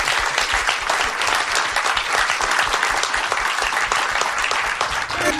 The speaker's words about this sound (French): On peut applaudir Sylvain pour cette chronique.